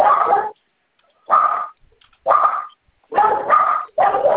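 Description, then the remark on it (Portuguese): Two dogs at a house, one outside and one inside, bark loudly, five sharp barks in an uneven rhythm with short pauses between them, and no one talking over them. “Os cachorros não torceram aqui.”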